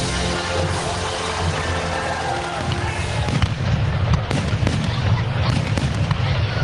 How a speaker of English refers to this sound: Well, fireworks all around the country launched to celebrate America's independence back in 1776, and look where we are now.